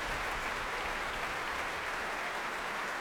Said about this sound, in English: The first performance was greeted with huge applause, as is tonight's.